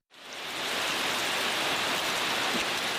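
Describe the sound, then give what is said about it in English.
Steady, dense rain hisses down without pause on the ruins of the EYN Church in Michika, Nigeria, a broad wash of patter that swells in at the start and then holds even, with no voices present. “Rain soaks what is left of the EYN Church in Michika.”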